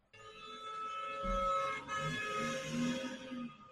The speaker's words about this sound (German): Klingeln mir jetzt gerade die Ohren oder höre ich die Hupe immer noch ganz leise?